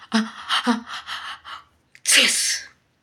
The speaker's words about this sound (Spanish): Aparece él solo, sin música, sin accesorios. No se escucha nada, salvo un estornudo.